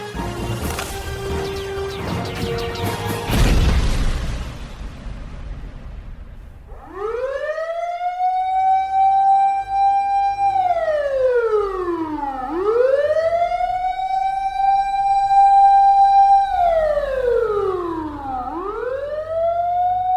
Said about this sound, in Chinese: 学长，学长，救人！发生什么事了？怎么会有警报声啊？ 哎呦，你真的是菜逼吧呢？别紧张啦，这只是演习而已啦。